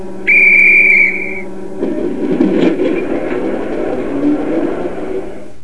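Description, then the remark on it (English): A single loud, steady train whistle sounds for about a second, then gives way to the low, continuous rumble and clatter of the train starting to move. “The trains will start.”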